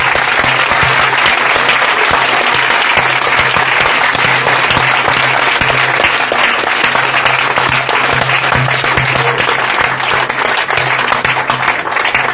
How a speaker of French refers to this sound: Let's give Jesus a big clap offering. Applaudissons le Seigneur Jésus.